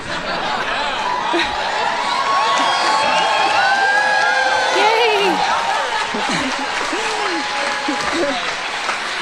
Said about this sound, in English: Ah, yes. Cheer on the communist. Oh, it's nice to feel seen as a communist.